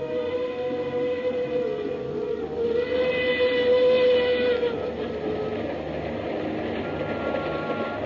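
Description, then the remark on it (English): A steam train's whistle on the Cape to Cairo railroad sounds one long, mournful note for several seconds at night, then fades, leaving a steady rumble of the moving train, travelling from Port Said to Fashoda in Sudan, underneath. No one speaks. “The mournful whistle of the Cape to Cairo railroad engine sounded in the night”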